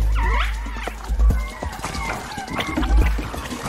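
A group of hens clucking at once, with short overlapping squawks and throaty calls in an uneven rhythm, over a steady low rumble and occasional bumps.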